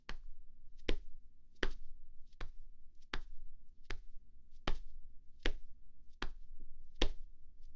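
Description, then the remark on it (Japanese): Hands tap rhythmically on a young man's body, a steady series of crisp pats spaced a bit under a second apart, with a faint low rumble underneath and no talking. “口に出ちゃう。トントントントントントン。”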